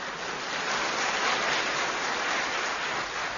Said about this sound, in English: Steps out, waits for audience applause.